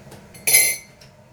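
A spoon stirs in a cup, giving one bright, ringing clink against the side with a few faint taps before and after. No one speaks.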